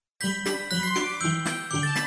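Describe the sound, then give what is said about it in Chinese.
A bright page-turn chime telling children to turn to the next page of a book: a quick run of about eight tinkling bell notes with shimmering, ringing overtones, played at a steady lively pace with no voices. “听到这个声音，要翻到下一页哦。”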